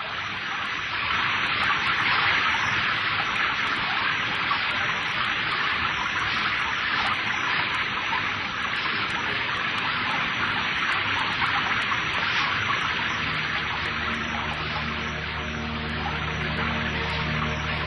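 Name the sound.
heavy rain pouring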